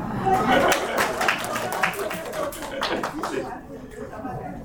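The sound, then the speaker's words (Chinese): Representatives at a meeting clap together to welcome a visitor, a dense patter of overlapping hand claps that swells at the start and gradually thins toward the end, with some murmuring voices mixed in. “我们掌声鼓励一下。”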